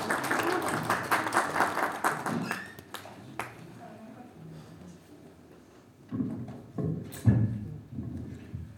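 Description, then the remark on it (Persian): An audience applauds in a dense burst of clapping for a few seconds, welcoming Dr. Kazazi, head of the Hamedan Science and Technology Park, then it dies away into quiet with scattered taps, knocks and faint movement. “پس دعوت میکنم با احترام از محضر ارزشمند جناب آقای دکتر کزازی ریاست محترم پارک علم و فناوری همدان با دستای ما محبتتون خواهش میکنم تشویق کنم.”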